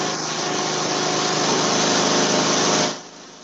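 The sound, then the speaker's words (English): A small lawnmower engine, just started, runs with a loud, steady buzzing drone for nearly three seconds, then drops away abruptly, leaving a quieter hum. No one speaks. “just started his lawnmower.”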